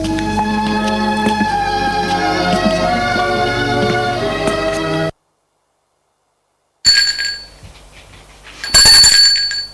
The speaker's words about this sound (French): Alban va sonner à la porte d'Hortense. Il est 11h du matin.